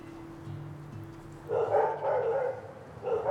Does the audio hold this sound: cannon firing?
no